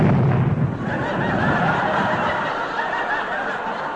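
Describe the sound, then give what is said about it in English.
A car engine blows a gasket: a loud, rough burst of noise with a heavy low rumble at first, then a steady harsh hiss and sputter for several seconds, with no voices. “Yes, yeah, Sid's having trouble with his car again. He's blown a gasket.”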